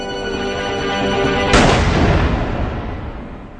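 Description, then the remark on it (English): A steady, buzzing drone hums along, then a single loud revolver shot cracks through and rings out, fading slowly over the next two seconds. No one speaks. “Martha Hoover, who had been startled by a strange popping sound.”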